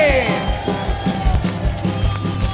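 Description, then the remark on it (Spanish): A loud audience applauds and cheers, with whoops and shouts rising over a dense, continuous roar of crowd noise that carries through the whole stretch without pause. “¡Un fuerte aplauso para esta gente!”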